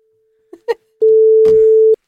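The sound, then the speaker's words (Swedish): A few soft clicks, then a single steady electronic ringing tone on an outgoing phone call, lasting about a second before cutting off, clear with no voices. “Ja, vi ringer nu.”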